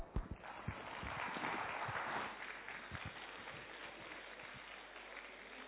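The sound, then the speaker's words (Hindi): A crowd claps steadily for several seconds after a show, a dense wash of overlapping hand claps with a few sharper individual claps standing out, swelling early and then easing to a lighter, continuing round of applause. “तालियों की गड़गड़ाहट और जोर से आए तो बहुत अच्छा रहेगा।”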